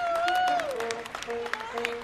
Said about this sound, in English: After just over 90 minutes, we're 800 miles away in our nation's capital. And as the vets start down the jetway toward the open door, they hear the sound of applause and music.